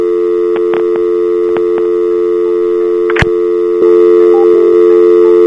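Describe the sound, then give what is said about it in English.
A steady electronic telephone line tone hums continuously during a phone call as the person called picks up the phone, punctuated by several faint clicks and one sharp snap midway, with the tone growing slightly louder near the end. No one speaks. “Damn it, I didn't know what was happening, but she was actually picking up the phone.”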